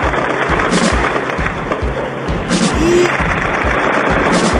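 Loud, sustained gunfire: rapid sharp bangs fire in a dense, uneven volley, shots overlapping with hardly a pause, and a brief high whine cuts through partway.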